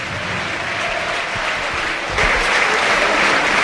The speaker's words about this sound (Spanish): Y ahora sí, el aplauso del Sardinero.